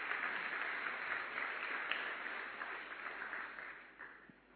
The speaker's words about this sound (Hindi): सबका उमंग उत्साह बढ़ाने के लिए आप पहुंची, एक बार फिर से आपका जोरदार तालियों से स्वागत है।